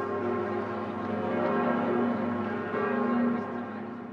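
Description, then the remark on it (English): Several large, newly cast cathedral bells, each tuned to ring in harmony with the cathedral's only original bell, Emmanuel, cast in 1686, ring together in a dense, sustained wash of overlapping tones, their harmonious peals blending and swelling steadily without pause, with no voices present. “Sanger says unlike the old bells, each new bell is tuned perfectly, and they've all been tuned to ring in harmony with the cathedral's only original bell, Emmanuel, the biggest bell, cast in 1686.”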